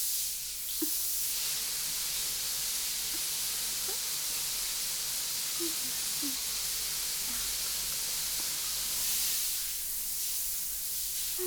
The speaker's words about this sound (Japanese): よし、それじゃあまずはシャワーからね。はい、かけるよ。